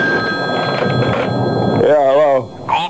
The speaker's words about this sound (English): At 9:30, I was flopped in my room, and the phone shouted at me.